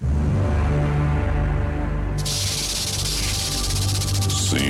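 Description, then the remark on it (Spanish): A snake hisses in a long, steady, breathy stream that starts partway through and continues to the end, layered over a low, droning musical background. “¿Con la serpiente? Así es. Conozco la lengua parcel.”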